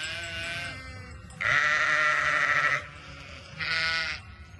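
Sheep and lambs bleat over a steady flock murmur on the Urošević farm during lambing season, with a couple of loud, wavering high-pitched calls, one long and one shorter, standing out above fainter overlapping bleats. No one speaks.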